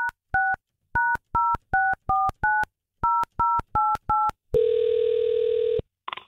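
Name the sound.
telephone number being dialed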